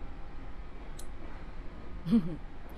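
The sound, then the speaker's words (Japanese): A conductor's old-fashioned ticket punch clips a passenger's train and express tickets on an old train: a faint click, then a slightly firmer clipping snap a moment later, against a quiet, hushed background with no talking. “こんなハサミなんて今時なかなか見ないでしょ。”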